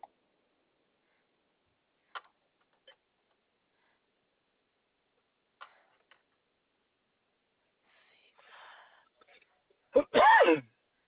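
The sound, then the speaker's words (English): A single loud sneeze: a breathy intake, then a sharp explosive burst trailing into a voiced cry. A few faint clicks and ticks come before it; otherwise it is quiet. “Bless you.”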